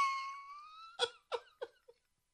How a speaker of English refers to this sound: So, okay. Excuse me. That was terribly unprofessional, me coughing towards the microphone.